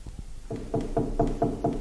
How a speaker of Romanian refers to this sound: băteau sfios la ușa lui Ibrăileanu